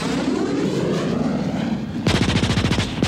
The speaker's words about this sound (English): And then I launched my plane, my special plane. Sure enough, I flew it to where their planes were. I got my plane in position right behind one of theirs, and I opened fire.